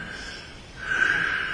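Airy deep breathing, soft at first and then swelling into a stronger, hissy breath about halfway through. No one speaks.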